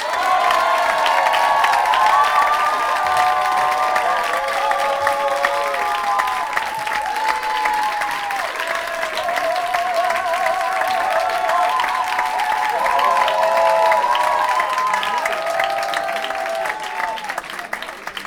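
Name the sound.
audience applauding loudly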